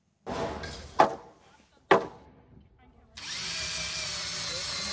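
At a solar camp, a power drill drives screws into wooden beams to build a roof, whirring in short bursts with a couple of sharp knocks against wood, then a steady, louder drilling sound continues to the end.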